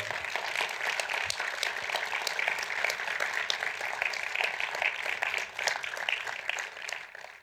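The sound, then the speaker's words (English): Sustained audience applause as director Michael Apted is welcomed to the stage at a panel hosted by Pat Morrison, a dense patter of many hands clapping steadily at an even, fairly loud level for several seconds with no voices over it. “You were trying to draw out the applause, I know.”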